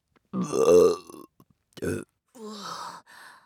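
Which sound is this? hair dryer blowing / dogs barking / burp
burp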